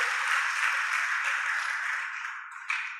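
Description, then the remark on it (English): An audience claps to the Lord in a dense, continuous wash of hand claps that holds steady, then thins slightly near the end before one last burst. No one speaks. “Can we clap again to our Lord of Lords, our King of Kings?”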